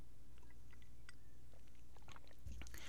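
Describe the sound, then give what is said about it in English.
Quiet mouth sounds of someone sipping tea: soft wet clicks and small swallows, then a brief louder slurp near the end, with no talking. “I'm going to have a sip of my tea here.”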